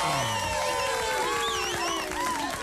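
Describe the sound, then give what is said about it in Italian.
A dense wash of crowd applause with cheering and scattered whistles rising over it, steady and fairly loud throughout the short burst, applauding that the morning air is finally fresh and breathable. “anche se devo dire, vorrei un applauso, perché questa mattina finalmente si respira.”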